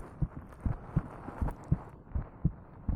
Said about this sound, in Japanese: 私の心臓の音、トクトクって聞こえてるでしょ。赤ちゃんはママの心臓の音聞くとすっごく安心するんだって。